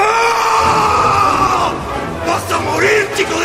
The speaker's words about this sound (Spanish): Entonces el indio lanza un grito.